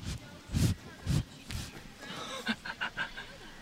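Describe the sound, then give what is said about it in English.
A miniature horse at a barn in Connecticut breathes heavily right against the microphone in a few loud, gusty puffs, followed by a quick run of softer snuffles and short rustling sounds. “That was a miniature horse breathing into the mic.”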